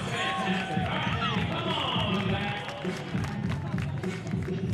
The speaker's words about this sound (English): Big round of applause for Landon.